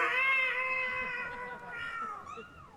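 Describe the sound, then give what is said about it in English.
A person imitates the drawn-out yowl of a cat in a box on the floor of a 16-foot moving truck driving to Virginia, one long wavering moan held loud for a few seconds, sliding up and then dipping down at the end. “And we had a cat in a box between us on the floor that was, more like this.”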